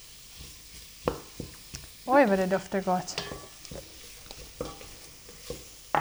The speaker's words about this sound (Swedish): Och sen när du har fått steka lite så kan vi hälla i en förpackning krossade på tomater.